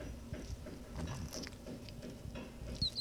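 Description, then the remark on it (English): A soft, steady patter and rustle runs throughout, with faint high squeaks partway through and one sharper, brief high-pitched animal squeak near the end. No one speaks. “That was a good squeak.”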